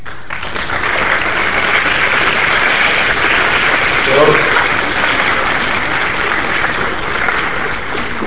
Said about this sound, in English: Thank you very much. Again, a round of applause.